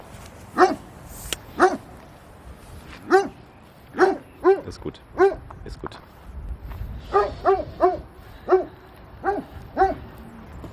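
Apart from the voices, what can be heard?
dog barking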